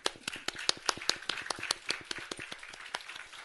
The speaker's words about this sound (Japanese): 後でご紹介しますけども、前の方にいらっしゃいますけども、あの皆さん大歓迎の拍手をしていただきたいと。